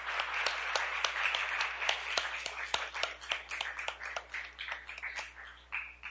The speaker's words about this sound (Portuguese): então eu queria pedir uma salva de palmas. Parabéns.